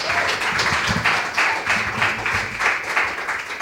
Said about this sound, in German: Dementsprechend einen Applaus für Pauline.